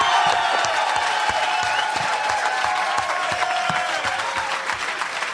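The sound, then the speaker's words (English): A studio audience breaks into sustained applause for Vikings owner Red McCombs after a great season, dense clapping filling the room steadily for several seconds, with a few scattered cheers mixed in, loud throughout. “And I think he deserves a round of applause with a great season, Red McCombs of the Vikings.”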